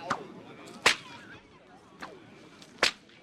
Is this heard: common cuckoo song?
no